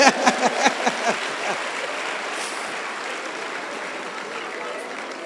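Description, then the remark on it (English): An audience applauds, opening with a few sharp, distinct claps that quickly merge into a steady, dense wash of clapping lasting several seconds at a fairly even, moderate loudness. “Please clap for him.”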